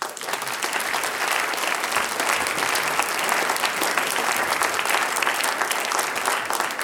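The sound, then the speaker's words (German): Sustained applause from a large audience fills a hall, a dense, steady wash of many hands clapping at once, loud and continuous throughout with no voices standing out, welcoming Vorau's mayor Patriz Rechberger onto the stage at a Steirische Sänger- und Musikantentreffen event. “Da aus Vorau, bitte Herr Bürgermeister, komm auf, der Applaus gehört jetzt dir.”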